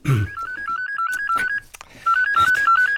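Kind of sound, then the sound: signal or alarm, mobile phone ringing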